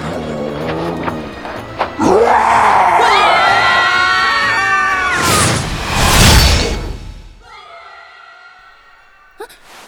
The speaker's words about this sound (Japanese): 皆さんの悲鳴ですよね。 屍兵に襲われてるんですか？